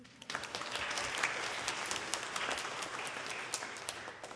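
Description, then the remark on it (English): A crowd applauds a pianist for playing the piano before the next hymn, a dense wash of many hands clapping at an even level from start to finish, with no voices standing out. “Before we sing the next song, can we please give a round of applause for Emma for playing the piano?”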